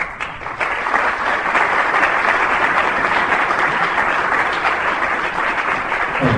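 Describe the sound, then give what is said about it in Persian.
A crowd applauds steadily, a dense wash of many hands clapping at an even, loud level for several seconds with no voices standing out. “رو زندان هم تشویق داره به دست میزنیم”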